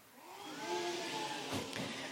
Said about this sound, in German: Den drei Mega-Hobby-Detektiven fröstelt es. Ein kalter Wind zieht auf.